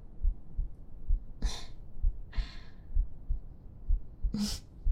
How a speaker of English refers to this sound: Listening to my heartbeat.